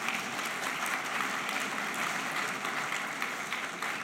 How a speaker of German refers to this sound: Ich denke, den Applaus hat die Höfels sich sicherlich auch verdient.